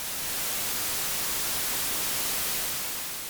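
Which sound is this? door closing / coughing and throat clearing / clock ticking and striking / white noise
white noise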